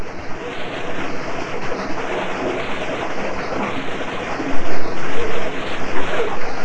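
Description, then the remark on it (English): Steady rushing, splashing water from a boy swimming, with a few louder sloshing splashes near the end and no voices. “Splash and splash.”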